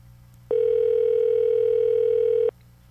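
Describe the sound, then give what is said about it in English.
A phone line rings once on an unanswered call to a phone with no voicemail: a single steady electronic tone lasting about two seconds, loud and clear, starting and stopping abruptly with no voices. “I've never heard such ringing.”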